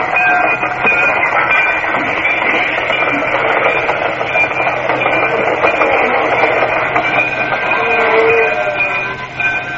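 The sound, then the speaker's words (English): A moving train rumbles and rattles steadily along the rails, a loud, continuous roar with faint metallic whines running through it and no one speaking. “I left Dendridge's room, found Norris, and hustled him into one of the baggage cars, and we stayed there until the train made its first regular stop.”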